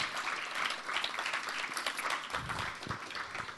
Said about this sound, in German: Give Jesus a big hand tonight. Gebt Jesus einen großen Applaus jetzt.